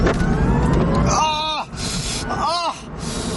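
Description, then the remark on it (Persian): A car being test-driven in California by two reporters roars loudly under hard acceleration, its pitch climbing and dropping twice as it shifts gears, with steady rushing road and wind noise throughout. “خب یه شتاب باش بگیریم.”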